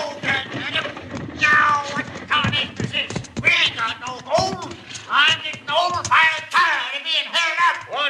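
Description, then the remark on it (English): A stagecoach's horses' hooves clop beneath loud, overlapping voices as the driver is told to hold down the horses. The hoofbeats slow and then stop while people keep talking. “All right, driver, hold down on those horses. Whoa!”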